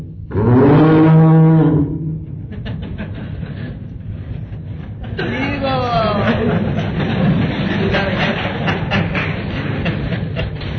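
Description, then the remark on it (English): A voice imitates a cow with one long, loud, low moo at the start. Speech follows over a steady background hum, with another shorter drawn-out call partway through. “And when he would call the cow's name, the cow would reciprocate by mooing.”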